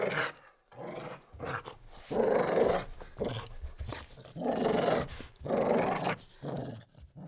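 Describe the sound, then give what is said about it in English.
A dog growls low and menacingly in several rumbling bursts that swell and fade with brief pauses between them; no one speaks. “He told me to wait and left his dog to watch me.”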